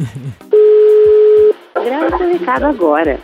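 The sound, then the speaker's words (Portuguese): A steady, single one-second telephone tone sounds as a number is dialed to call a woman on the radio program Missão Impossível on Jovem Pan, loud and unbroken, then voices begin talking right after it stops. “Agora vamos ligar pra ela.”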